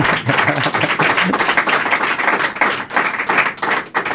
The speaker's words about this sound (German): So, das mit dem Klatschen hatten wir eben richtig geübt.